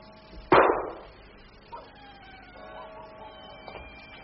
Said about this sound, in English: You heard it, didn't you? Yes, I heard it. What was it? It sounded like a shot. Where did it come from? I couldn't say.